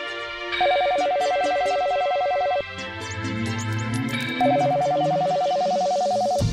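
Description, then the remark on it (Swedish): A telephone rings twice in a home, each ring a steady electronic trill lasting about two seconds, with a gap between them, loud over a low background hum of music-like tones. “Några veckor senare ringer telefonen hemma hos Amit Paul.”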